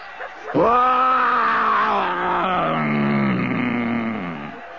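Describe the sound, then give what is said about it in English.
A human voice imitates a lion's roar: one loud, sustained, rough bellow lasting about four seconds, sliding slowly downward in pitch before cutting off. “Stand back. I'm going to roar again.”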